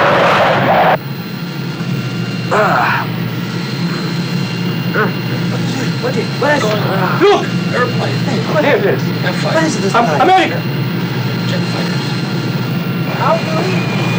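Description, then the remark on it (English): A steady, loud roar of jet fighter aircraft flying overhead fills the scene, a low rumbling drone that persists throughout while several people talk and call out over it. “Jet fighters.”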